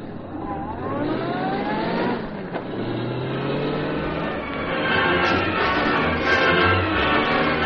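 A car engine revs and accelerates away, its pitch climbing in rising harmonic sweeps, then settles into a steady, loud roar as the vehicle drives off.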